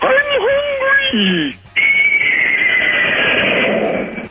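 A loud horse neigh with a shaky, wavering pitch lasts over a second, then cuts to a brief gap followed by a steady, noisy rush of sound.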